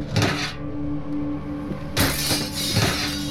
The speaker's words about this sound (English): He smashed through the window with a garbage can and stepped inside.